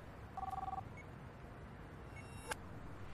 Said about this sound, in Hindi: एक minute hold, किसी का फोन आ रहा है।